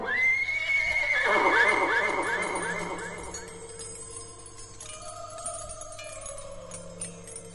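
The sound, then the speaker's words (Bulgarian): A horse whinnies loudly with a long, wavering neigh, followed by softer snorting and faint hoofbeats, with a low steady background and a voice speaking briefly near the end. “Отскубни косъм от гривата ми, потри го с пръсти и заповядай да се яви пред мен моят бял кон.”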